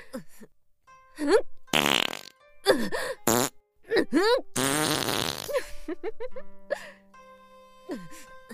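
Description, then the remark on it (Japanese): A string of loud farts, some short blasts and some long sputtering ones, broken up by breathy vocal moans and groans between the bursts. “さすがにここまでおならぶちまけたら他の村人も匂いで気づいちゃうかしら。”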